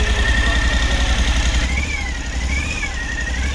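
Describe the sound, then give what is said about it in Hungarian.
A V-twin motorcycle engine, started without using the clutch, idles steadily, a loud, uneven low throb with a faint rattly, chirping whine riding above it. No one speaks. “És lehet hallani ezt a V2-es kis csörgés, kicsit ilyen ciripelős, de nekem tetszik.”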